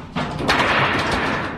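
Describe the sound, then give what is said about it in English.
A sheet of tin or aluminum, a homemade instrument for a trash orchestra, is shaken, giving a loud, sudden rumbling roar like thunder, with rattling metallic crashes swelling and trembling throughout the brief sound. No one speaks. “This is just a piece of tin or aluminum or something. And it'll make an instrument that sounds a little bit like this.”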